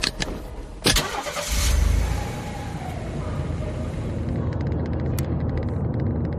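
A car engine cranks and catches with a sharp burst, then settles into a steady idling rumble that continues to the end, as the car sets off from León.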